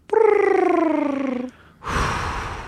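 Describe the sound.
A person imitates a bird call of the kind heard when camping in Yellowstone East with their voice: a loud, sustained, slightly falling whistle-like tone with a rapid fluttering wobble, followed by a breathy, hissing exhale.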